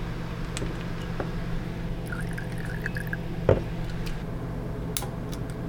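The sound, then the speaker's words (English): A thin stream of Everclear alcohol pours steadily into a small glass carafe, a soft continuous trickle with faint clinks and drips, quiet, with no one speaking. “And some everclear.”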